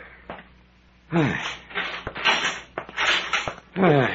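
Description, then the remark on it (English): A heavy cell door on a landing creaks and scrapes open, with squealing, downward-sliding hinge groans and bursts of grinding noise over a few seconds. “Open the door”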